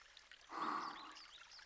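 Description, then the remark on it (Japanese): Water trickles and pours steadily, swelling briefly into a fuller gush before settling back to a soft, continuous flow. “この水ってどこまで行くんだろう。”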